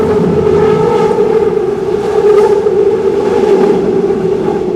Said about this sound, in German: Auf einer Brücke direkt hinter den Bauernhöfen ist es am deutlichsten zu hören. Ein Doppelstockzug der Schwarzwaldbahn rollt heran und dann dieses schrille Geräusch.